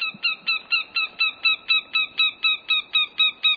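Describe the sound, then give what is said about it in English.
A northern goshawk calls in a fast, steady series of harsh, nasal kek notes, about four per second, loud and evenly spaced, with no talking. “Yet, during lean years, when ruffed grouse and snowshoe hare populations dip, as happens about every 10 years, the scarcity of prey brings northern goshawks south.”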